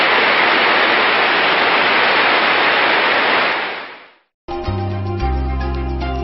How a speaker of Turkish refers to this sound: Çin kurbağaları, Çin'de yüksek şelaleler ve nehirlerle kaplı bir bölgede yaşayan nadir görülen bir kurbağa türüdür. Bu kurbağaların yaşam alanlarına yoğun bir su sesi hakimdir.